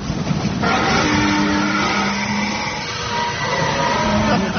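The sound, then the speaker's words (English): An 1860 train rumbles along with steady, loud mechanical noise while high brake squeals and hums ring through it as it slows to a stop, stopped by leaves on the line. No voices are heard. “It's nice to know that even in 1860, trains can be stopped by leaves on the line, isn't it?”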